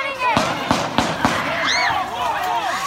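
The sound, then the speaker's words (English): Four sharp gunshots crack in quick, fairly even succession over a noisy outdoor crowd at a tense street protest, followed by raised voices and shouting as the crowd reacts. “There were gunshots.”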